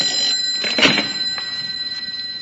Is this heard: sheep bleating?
no